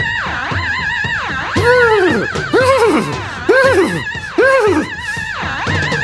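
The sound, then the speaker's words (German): A horse whinnies over and over in loud, rising-and-falling bursts, about four strong neighs in a row with shorter nickering between them, played back from a vinyl record, with no one talking. “Geschafft, hier eine Schallplatte mit der Pferd gewesen.”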